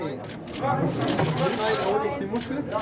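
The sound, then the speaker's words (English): Gathered media murmur steadily with overlapping indistinct voices while camera shutters click in quick scattered bursts throughout, moderately loud, as Paul the Octopus slowly flops into a plastic box at a German aquarium to make a World Cup prediction. “It's the clicking of camera shutters, the excited murmur of the gathered media, as an octopus slowly flops into a plastic box.”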